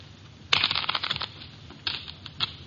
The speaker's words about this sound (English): Okay, then. Here's a new deck. Shuffle them